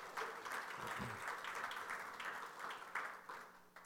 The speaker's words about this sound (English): But, coinciding with their 56th anniversary, also became great-grandparents on that day. Correct? So that's what she wants applause for, is the great-grandparent bit.